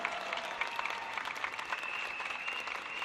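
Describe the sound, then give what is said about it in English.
A crowd at a Singapore election event applauds the party's new candidates, a dense wash of many hands clapping at a fairly even level throughout, with a faint tonal hum running beneath the clapping. “Give them another big round of applause, all our new candidates.”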